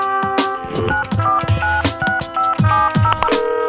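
A rapid series of short electronic keypad tones, like a phone number being dialed, beeping one after another over a busy, rhythmic musical backing with punchy percussion hits.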